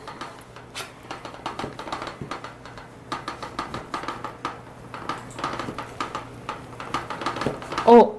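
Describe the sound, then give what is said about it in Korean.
A bowl clatters again and again during food prep, with quick, irregular clinks and knocks at a moderate level over a steady low hum, with some faint voices in the background. “그릇에서 소리가 많이 나네.”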